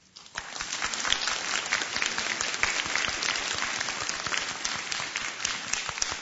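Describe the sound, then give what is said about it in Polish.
A crowd at a gathering of children's rosary circles breaks into steady, dense applause to welcome listeners of Radio Maryja. It starts suddenly and continues at an even level, many hands clapping together without any voices standing out. “a w imieniu także wszystkich najmłodszych przyjaciół Matki Najświętszej chciałbym wszystkich słuchaczy Radia Maryja przywitać gorącymi oklaskami.”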